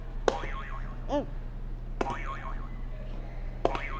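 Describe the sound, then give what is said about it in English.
A buzzer button sets off a cartoonish sound effect three times, each press a sharp click followed by a wobbling, springy boing tone, with a steady low hum underneath and no talking. “You want to try to hit another buzzer?”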